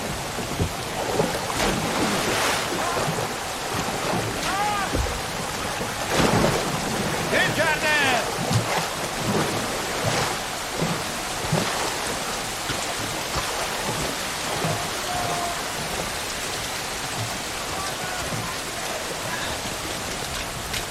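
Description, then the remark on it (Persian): A storm at sea around boats taking on water that are being bailed out: steady heavy rain hisses across the whole span while low rumbles of thunder roll beneath, with bursts of wind and crashing water swelling now and then. “معلوم نیست طوفان چند از کشتیامونو از بین”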